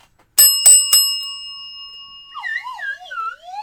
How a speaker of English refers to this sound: But for now, it's time to ring the news bell.